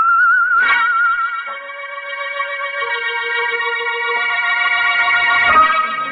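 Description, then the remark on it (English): A man whistles an eerie, wandering tune in an alley in thick fog, holding long notes that slide and step between pitches at a steady, moderate volume, with no talking. “But we couldn't find the guy who whistled that queer tune.”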